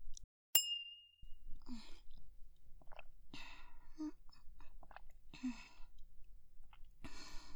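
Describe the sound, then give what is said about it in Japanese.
A single bright clink of glasses in a toast at a university tennis club drinking party rings briefly near the start and fades, followed by quiet sipping and mouth sounds against a soft hum. “はい、では乾杯ですかね。”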